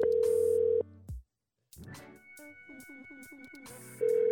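An outgoing phone call rings, with a steady electronic ringback tone at the start and again at the end, separated by a short silence and a stretch of melodic, music-like sound.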